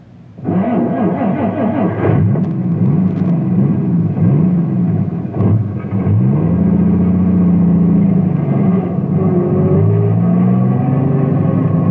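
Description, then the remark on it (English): A truck engine revs loudly and continuously as the truck is moved, its pitch climbing and dipping in repeated surges as it drives off, with a steady low rumble underneath and no voices. “I'm moving the truck, but not because I think I should.”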